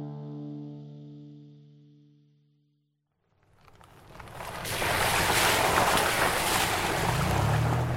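A boat surges across ocean waves with a loud, steady rushing roar of water and wind, rising in after a fading musical tone and staying continuous.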